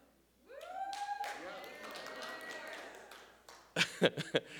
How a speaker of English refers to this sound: I don't know. I'm not sure if that cheering was sincere, genuine.